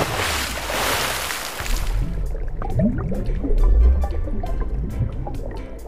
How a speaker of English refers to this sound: Quick as a flash, Sam and Sabby made a dash, and they jumped into the tank with a great big splash.